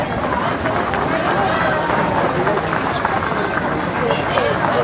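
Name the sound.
audience applause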